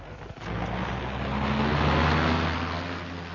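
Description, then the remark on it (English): The engine of a dark car rumbles and revs, its low drone swelling into a steady roar as the vehicle pulls away, loud with no voices. “In a dark car with a hat pulled well over its eyes, Seacombe was next driven to a submerged airport.”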